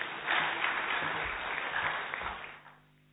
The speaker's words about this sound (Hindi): इनके लिए जोरदार ताली बजाएंगे.